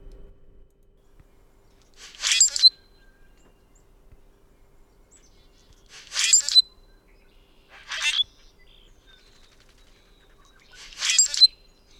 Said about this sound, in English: All right, so that is, as probably most of you picked up on, that is a bird sound. It is one of my favorite birds, one that greets me every time I go to a large parking lot in Tulsa. That is the common grackle, right?